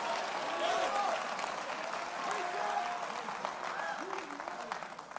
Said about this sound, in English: I can see some of you just clap your hands.